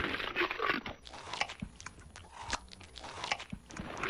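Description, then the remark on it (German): Loud, wet chewing and smacking, with repeated crunchy bites in an uneven rhythm and no talking. “Da war jemand am Schmatzen.”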